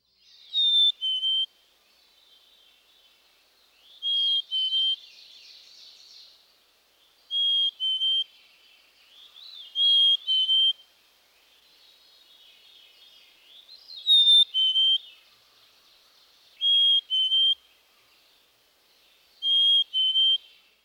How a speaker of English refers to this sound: Listen to the melodious, two-noted whistle of the black-capped chickadee, also known as its Phoebe song. Phoebe.